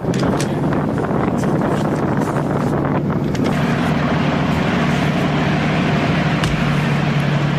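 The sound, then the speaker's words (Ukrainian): A Ukrainian tank's heavy engine roars steadily as it drives to change position after firing on Russian positions, a loud, continuous low rumble with a droning hum and gusty wind noise over the top throughout. “Зараз танк після пострілів змінює позиції і буде далі працювати.”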